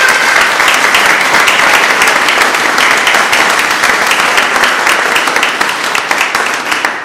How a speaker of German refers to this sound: Und das bedarf eines großen Applaus an dieser Stelle.